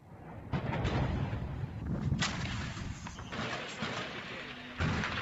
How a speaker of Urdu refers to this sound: یہ آوازیں شام میں ہونے والی بمباری اور فائرنگ کی ہیں.